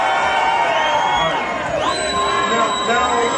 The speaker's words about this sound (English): Break for applause.